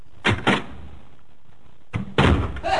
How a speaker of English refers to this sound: All right, let me get the door.